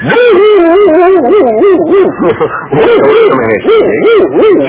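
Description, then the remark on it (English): A man's voice imitates a dog howling, trying out how it sounds to work a dog, with drawn-out wavering howls rising and falling in pitch, loud, repeated continuously with brief breaks. “Just trying it out to see how it sounds to work a dog.”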